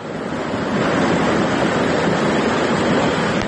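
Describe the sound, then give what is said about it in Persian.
A loud, continuous roar of floodwater rushing through the streets of Varukh village near Isfara after heavy rain, steady throughout with a broad hissing wash and no pauses. No voices are heard. “میگویند روز 26 ایون در پی بارش زیادی بارون سیل آمده راه و زمین های کشت و منزل ساکنان را خراب کرده است.”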